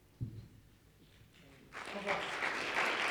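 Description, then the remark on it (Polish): After a soft thump and a brief lull, an audience at a forum breaks into applause after a speaker finishes a talk, the clapping swelling into a loud, dense, steady patter that continues to the end. “Tak się zastanawiałem, kiedy się rozlegną pierwsze oklaski.”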